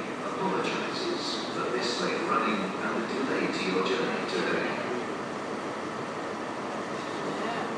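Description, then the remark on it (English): A Pacer diesel railbus pulling out in Exeter, Devon, UK, on a run from Exeter to Tynmouth, heard from on board: a steady rumble of engine and wheels with a broad hiss, and faint murmuring voices in the background. “The Pacer is still alive and well, and we're on one here in Devon, down in Exeter, going from Exeter to Tynmouth.”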